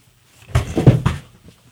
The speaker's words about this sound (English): I'm just going to close a door. We've got some pounding. There we go.